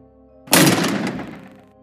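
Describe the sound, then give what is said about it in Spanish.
A single loud bang on the closed door of a bedroom breaks a low, steady hum, a sharp heavy impact that rings out and fades over about a second. No one speaks. “El golpe en la puerta me sobresaltó.”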